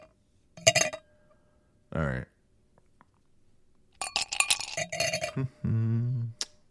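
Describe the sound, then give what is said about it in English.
Bright, sharp clinks of ice against glass as scotch is poured over ice at an Airbnb rental: one quick burst early, then a rapid cluster of jingling clatter, with a few brief spoken words in between and at the end. “I'll pour us some scotch, though. You want ice?”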